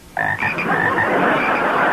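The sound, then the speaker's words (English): A dense chorus of frogs croaking loudly, starting abruptly after a brief quiet moment and continuing as an unbroken, overlapping din with no voices. “Boys, where are your frogs now?”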